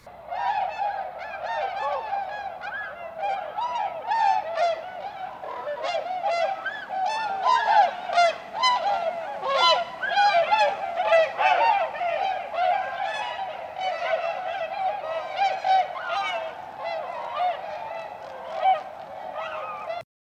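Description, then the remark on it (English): A large flock of snow geese calls overhead, with dense, overlapping high-pitched honks and yelps running steadily for the whole stretch, fairly loud and with no voices. “flock of snow geese or tundra swans on their way to breeding grounds in the high Arctic.”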